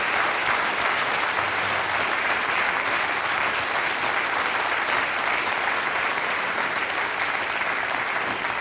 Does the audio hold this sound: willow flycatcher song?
no